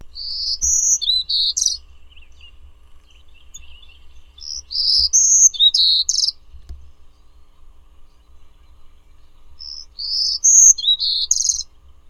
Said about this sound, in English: Birdsong was provided by National Audubon Society Birdsong Collection, Lang Elliott Music of Nature.